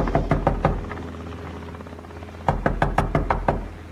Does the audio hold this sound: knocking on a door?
yes